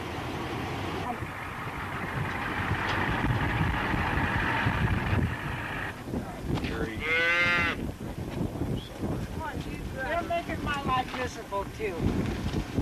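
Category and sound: animal, cattle mooing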